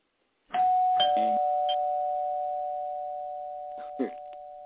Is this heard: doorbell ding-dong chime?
yes